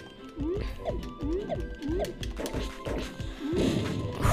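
Video game crates get smashed apart by bombs in a quick, rhythmic series of loud crunching impacts with chirpy synthetic tones, ending in a longer, noisier crash.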